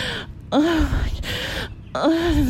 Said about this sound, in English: I'm not even moaning anymore. I'm just fucking breathing.